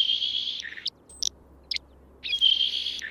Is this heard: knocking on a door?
no